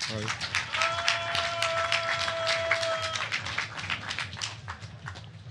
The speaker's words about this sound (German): Applaus bitte.